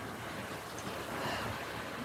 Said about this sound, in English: I hope you can hear the waves. It's great.